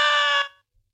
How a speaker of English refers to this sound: Yes. I screamed. I screamed so loudly there was blood in my throat.